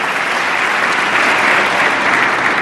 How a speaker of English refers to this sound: Big Democratic applause here for extending unemployment benefits that the Congress let expire.